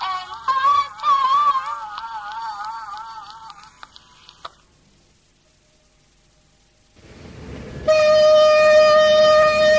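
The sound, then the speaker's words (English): The foghorn of a ferry crossing the river from Halifax, Nova Scotia, to Dartmouth lets out a loud, steady, sustained blast in dense fog on the waterfront, continuing to the end after a quiet pause and some earlier wavering tones and low rumble. “Well, there's a dense fog here on the waterfront in Halifax, Nova Scotia, and that foghorn is on a ferry going over to Dartmouth, which is across the river.”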